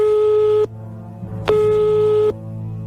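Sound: telephone call dialing tone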